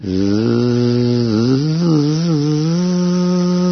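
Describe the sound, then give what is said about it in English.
A voice imitates a bumblebee, holding a steady, loud nasal buzz for several seconds, its low drone wavering slightly up and down in pitch. “So he was singing in his own way. Zing. Let it buzz.”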